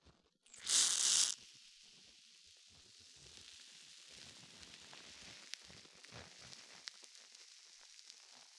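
A short, loud hiss bursts out for about half a second as carbonated lotion is shaken out at bath time, then gives way to a steady, soft fizzing crackle of foaming bubbles with scattered tiny pops that keeps going to the end.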